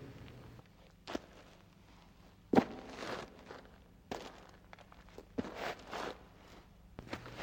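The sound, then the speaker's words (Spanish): Slow, hollow footsteps echo off sunset-tinted walls in a quiet village, each step landing with a sharp knock and a lingering reverberant tail, about six or seven paces at an unhurried rhythm. “Oía mis pisadas huecas, repitiendo su sonido en el eco de las paredes teñidas por el sol del atardecer.”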